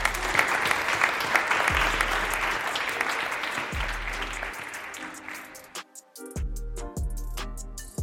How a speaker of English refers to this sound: So a massive round of applause to every single one of you, and thank you for some amazing conversations that I've had with you all today.